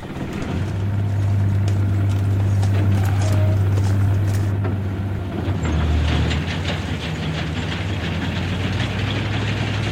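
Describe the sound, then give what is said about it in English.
Horse hooves clip-clop in a steady walking rhythm beneath a continuous low rumble and rattling, like a cart or farm implement rolling along. No one speaks. “A simpler horse and low horsepower life, as it used to be on many farms in the 1940s and 50s. Whoa!”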